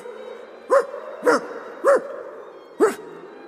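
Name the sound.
small dog barking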